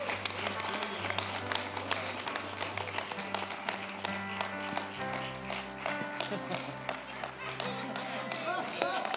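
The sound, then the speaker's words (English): A crowd claps steadily for several seconds, dense sharp hand claps, with sustained organ-like tones and a voice underneath the applause. “Somebody clap like God's very powerful.”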